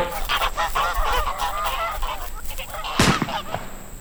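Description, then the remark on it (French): A flock of released wild geese honks continuously in overlapping, raucous, loud calls, until a sudden sharp bang, a gunshot that downs one of the geese, cuts through near the end. “C'est pourquoi je vous propose aujourd'hui, en lieu et place du traditionnel quiz cinéma, un lâcher d'oie sauvage.”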